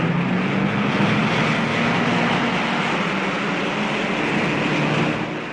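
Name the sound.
rally car engines revving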